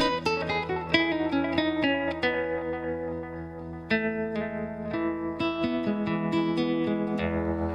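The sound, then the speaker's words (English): An electric guitar plays a run of plucked notes and chords through a tremolo effect from the Dynatrem effects patch, its sustained tones pulsing in volume, with no one speaking. “It's got tremolo. I don't normally do tremolo because I hate it.”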